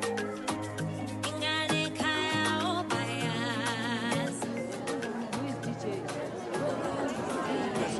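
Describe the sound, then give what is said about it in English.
A dense crowd of people mingles and chatters amid a carnival atmosphere, many overlapping voices forming a steady, loud babble with music-like tones and occasional brighter calls rising above the hubbub. “Crowds of people mingle amidst the carnival atmosphere.”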